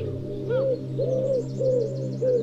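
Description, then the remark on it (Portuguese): A wood pigeon coos in a soft, rhythmic series of low, hollow notes, four phrases repeating steadily, clear with no talking, in wooded patches around Monte da Virgem in Vila Nova de Gaia. “em redor do Monte da Virgem, em Vila Nova de Gaia, onde de resto se encontram as instalações do Centro de Produção do Norte da RTP, os pombos turcazes são visita frequente”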